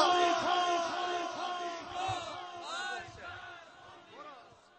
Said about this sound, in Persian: فریاد بزن مرگ بر آمریکا.